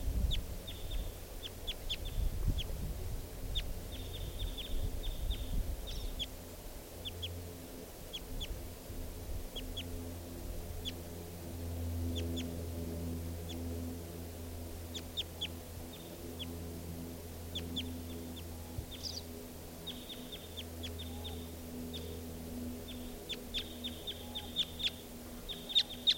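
crossbill calls

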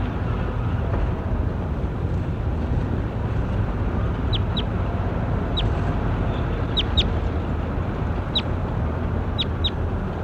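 bird call recording

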